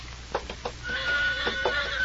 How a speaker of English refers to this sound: Yeah, that's my horse. He heard something.